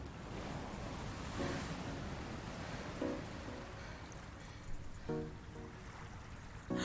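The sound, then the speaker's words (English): Ocean waves on a summer day, growing stronger, wash and roar continuously, a broad rushing surf with a few louder surges breaking through the steady churn. No voices, just the constant hiss and rumble of water. “I can feel the waves are getting stronger.”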